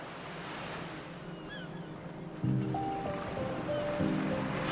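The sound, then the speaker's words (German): A steady, rushing wash of sea waves rolling onto the shore at Maronti beach. Partway through, a low humming drone with faint tones rises underneath the surf. “Tags darauf machte ich mich mit einem Badetuch, sehr ängstlich und neugierig, auf den Weg zum Maronti-Strand.”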